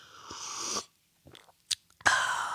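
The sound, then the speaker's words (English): A breathy slurp of Culligan water followed by a brief pause, a couple of small gulping clicks as it is swallowed, then a loud satisfied exhale. No talking. “anytime you see me take a drink of a liquid here, enjoying a beverage, it's a great opportunity for you, the home listener and viewer, to have a home beverage as well.”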